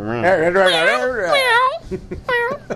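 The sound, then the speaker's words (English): A person imitates a cat, drawing out a few wavering, high-pitched meows in a sing-song voice, fairly loud, with the last one cut short. “Now, if you're meow meow mail.”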